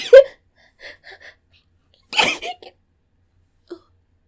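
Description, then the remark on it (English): A few short catching breaths lead into one sharp sneeze that bursts out about halfway through, followed by a faint breathy sniff and then quiet. “Oh, I have to sneeze.”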